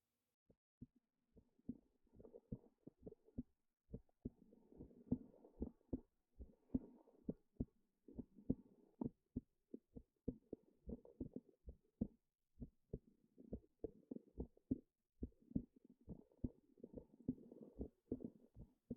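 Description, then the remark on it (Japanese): A steady, fairly quick heartbeat thumps on and on, its muffled low beats evenly spaced, with a soft rumbling, gurgling wash filling the gaps between them. “心臓の音を確かめて。”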